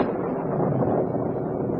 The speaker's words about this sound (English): There's the storm.